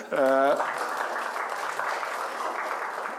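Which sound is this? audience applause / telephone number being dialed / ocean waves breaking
audience applause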